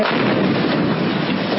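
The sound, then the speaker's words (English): A loud, sustained roar from a kamikaze drone explosion striking and shattering a tank, dense crackling and rumbling blast noise that holds steady throughout without pause, with no voices. “You really get a sense of the power that's being exerted here by these kamikaze drones that they are that they've now released footage of.”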